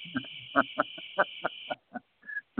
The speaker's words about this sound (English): Stinking cricket.